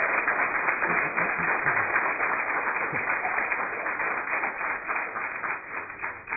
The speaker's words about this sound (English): That is our amazing youth staff and student leaders, and we should give them a round of applause for putting that together.